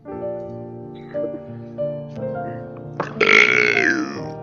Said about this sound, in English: pat your back next time you try to burp. What? Like a baby. Pat your back next time you try to burp.